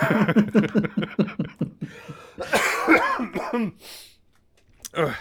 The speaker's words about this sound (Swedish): Nej, hör du, jag ska gå och hosta lungorna ur mig nu.